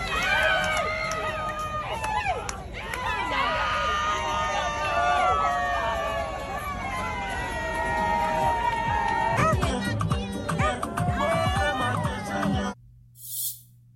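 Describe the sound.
A group of adults in a video posted online cheers and shouts over each other at a child in a loud, continuous mix of excited voices. The noise breaks off abruptly near the end.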